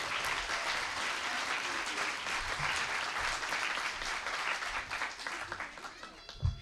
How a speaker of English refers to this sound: We thought it was time to have her back, so give a big round of applause